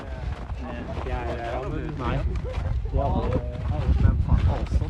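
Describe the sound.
A snowmobile engine revs and drones outdoors as the rider shows off snowmobile skills, its pitch rising and falling, over heavy wind rumble, with voices talking over it and the noise growing slightly louder toward the end.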